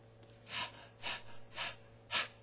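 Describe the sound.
A voice imitates panting: four quick, breathy huffs at an even rhythm, fairly soft, with no words spoken.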